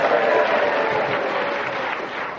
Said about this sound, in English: I got a bigger round of applause when he was rude about me.